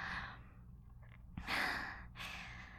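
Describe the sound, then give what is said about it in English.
Fast, heavy breathing: a few rapid, breathy inhales and exhales in quick succession, fairly loud, with no speech. “Your breathing's just as fast as mine.”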